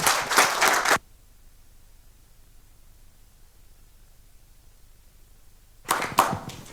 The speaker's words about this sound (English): And he's here today to show us. So please give him a round of applause.